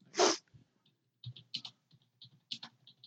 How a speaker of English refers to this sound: Taps away on the keyboard trying to find out the date.